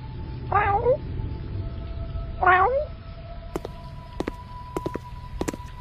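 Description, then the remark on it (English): A cat lets out two distinct, wavering meows, a short pause between them, followed by a few light tapping sounds like footsteps over a low background hum. “Sorry, little pussycat.”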